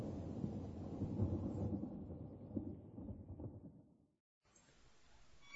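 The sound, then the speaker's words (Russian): Deep, rolling summer thunder rumbles in the distance for several seconds, then slowly fades to silence before a soft, steady hiss returns. “и задрожал вдали стихая шамана бубном летний гром.”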